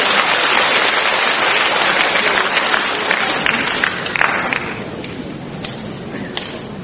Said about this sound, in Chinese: 大家掌声欢迎。